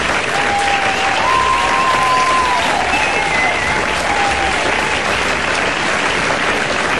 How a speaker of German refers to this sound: Einen großen Applaus an das ganze Team vom Meringhof-Theater,